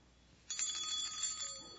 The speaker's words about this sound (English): It's a bell. And can you see what's on top of the bell? A little Christmas tree. We can hear a bell.